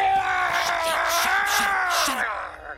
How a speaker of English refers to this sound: But he accidentally knocks over the iPad that has their Klingon Dungeons & Dragons game on it. And Martok screaming is not something that he knows how to mute quickly.